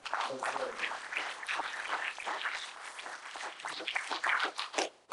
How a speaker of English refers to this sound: In the name of Jesus. Give Lord another hand clap.